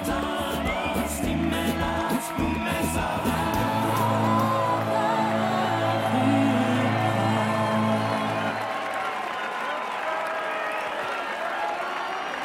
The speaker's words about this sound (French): Nelson Mandela parvient enfin à l'hôtel de ville du Cap. Il apparaît au balcon pour prononcer un discours. La foule est dense et bruyante.